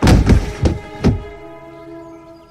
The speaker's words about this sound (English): I backed away from his body as it fell to the floorboards with a final thud.